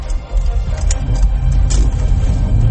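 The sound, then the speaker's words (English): A semi truck forcing its way into traffic ahead of the driver rumbles by, a loud, steady low engine drone with bursts of road noise and hiss, no voices over it. “And this fucking big ass semi truck kind of just bullies himself in.”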